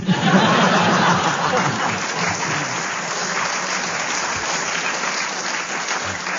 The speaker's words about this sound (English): The audience applause assumes that they enjoy the challenge, so you get a bonus point for the interruption.